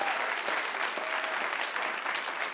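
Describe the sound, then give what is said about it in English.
Steady applause from a church audience giving the Lord a hand clap of praise at an 8:30 morning worship service on a rainy day, dense overlapping claps at a consistent, fairly loud level throughout, with no pauses and no clear speech. “Come on, give the Lord a hand clap of praise one more time.”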